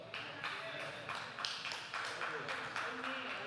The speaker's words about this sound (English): That's why we got three hand claps, because three of y'all approved of me being here and 15 of you didn't.